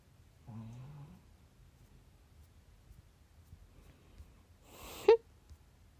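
A pet dog named Taotao snores: a low, rumbling snore early on, then a quiet pause before a sharper, louder snorting breath. No one speaks.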